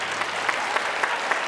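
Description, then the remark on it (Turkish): Audience applause: a steady, dense wash of clapping at moderate volume, with a few sharper claps standing out at regular intervals, and no voices over it. “Tanımayanlar alkışlasın, tanımayanlar.”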